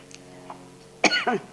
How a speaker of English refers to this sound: Somebody's coughing.